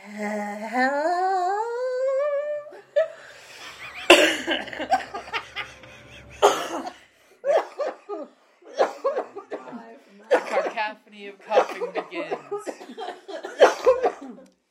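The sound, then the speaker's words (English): A rising, moaning voice, coming from a distance, gives way to a jumble of short, rough bursts of coughing from several people, overlapping and irregular, fairly loud, with some chuckling mixed in. “Cacophony of coughing begins.”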